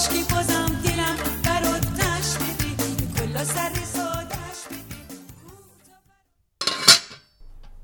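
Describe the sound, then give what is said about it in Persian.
Background music fades out, then a metal pot lid clanks and scrapes briefly, fairly loud, as it is lifted off a cooking pot of ash (Persian noodle soup), followed by quiet. “در قابلمه رو بر میدارم.”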